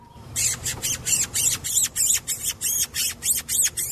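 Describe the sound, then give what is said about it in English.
An imitated tufted titmouse call: a rapid, steady series of about a dozen harsh, raspy high-pitched notes, loud, with no talking. “The tufted titmouse, the barred owl, and the Carolina wren for good measure.”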